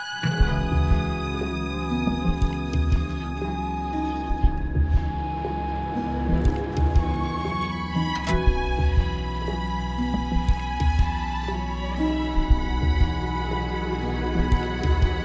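An instrumental intro of a pop song plays alone: sustained, layered tones and chords with a soft, steady pulse underneath, holding an even moderate loudness throughout with no voices.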